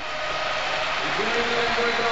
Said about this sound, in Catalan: I escolteu, aplaudeix Vitòria.